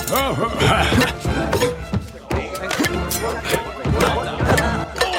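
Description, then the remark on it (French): Repeated sharp crashes and clattering impacts as century-old plates and dishes are smashed and tossed about, in a dense, busy burst lasting several seconds, with voices mixed in underneath. “Cette vaisselle du quartier Ouest a plus d'un siècle! Arrêtez, s'il vous plaît!”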